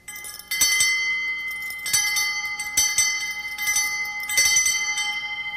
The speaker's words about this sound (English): I have a musical delivery, alrighty? Right here. It's an elephant bell. Now get set.